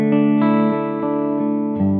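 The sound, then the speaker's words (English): Sustained electric guitar chords through a true-stereo chorus effect with a touch of reverb, giving a shimmering, wide sound, changing chord every few moments, loud with no talking. “You can press two buttons in, it's like two different choruses at the same time, I believe, or one does one to the other, I'm not sure what it does, but that's the sound I quite like.”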